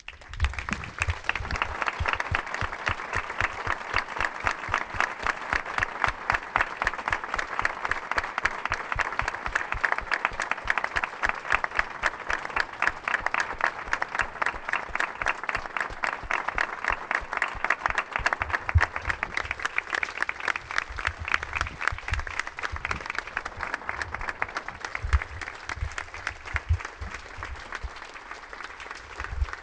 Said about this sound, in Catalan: Volem agrair la feina dels Mossos d'Esquadra i de la Guàrdia Urbana que treballen per tots nosaltres i han de saber que sempre tindran el nostre suport i la nostra estima. Demanem un fort aplaudiment per ells.